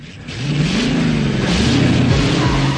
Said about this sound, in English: She flings her arms backwards, throws her head back and stands on tiptoe as the two cars set off past her in a cloud of dust.